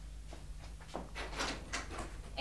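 A door being opened: a short run of soft clicks, rattles and scrapes from the latch and handle, quiet over a low steady hum, with no one talking.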